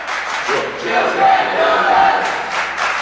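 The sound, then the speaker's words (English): A loud, dense crowd of Sandusky fans roars and chants continuously at a basketball game during free throws, swelling in the middle and holding steady throughout, with a few sharp whistles or squeaks cutting through the din. “Sandusky crowd right next to us.”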